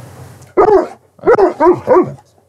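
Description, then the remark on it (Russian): Dogs bark loud: one bark, a short pause, then three quick yelping barks in a row, over a faint low background hum, as a music track is shown to them. “Ну что, чуваки, мы показали наш трек уже собакам, нашим гигачадам.”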